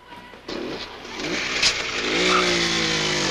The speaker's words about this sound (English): The girls leave on a motor scooter.